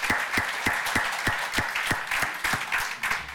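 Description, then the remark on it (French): An audience applauds steadily, dense clapping from many hands blending into a sustained wash with some individual claps standing out, no talking over it. “Et puis, voilà, on pourrait encore une fois, je pense, faire un tonnerre d'applaudissements à nos poissons rouges.”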